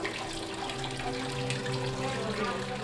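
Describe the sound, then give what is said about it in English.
Steady bubbling, splashing water from a fountain in La Provence Spa, a hushed hotel spa with tiled floors and massage rooms, runs continuously at a moderate level, with a faint low hum beneath it and no voices. “The hallway ends at La Provence Spa, a hushed oasis of sorts, complete with tiled floors, massage rooms, and a bubbling fountain.”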